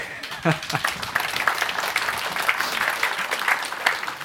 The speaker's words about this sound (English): Now you can clap.